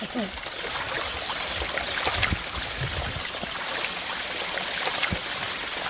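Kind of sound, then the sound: household object, water trickling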